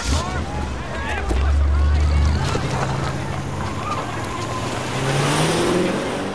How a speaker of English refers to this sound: runs alongside a car as it screeches out of the car park, following others down the road. He dashes after other cars heading off the other way.